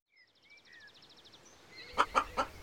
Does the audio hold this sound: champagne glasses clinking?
no